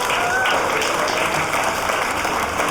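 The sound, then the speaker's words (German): An audience applauds steadily at the live Chaos Radio 253 show from the Seelchen in Berlin, a dense wash of many hands clapping at constant loudness throughout, with a faint whistle or cheer briefly rising above it. “Könnten wir noch mal einen Applaus für die letzte halbe Stunde haben?”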